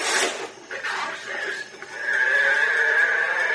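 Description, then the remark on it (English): A strange, strained cow sound effect, oddly high and whinny-like, opening with a raspy burst and then stretching into a loud, sustained wavering tone for several seconds, with no talking. “That's a sick cow.”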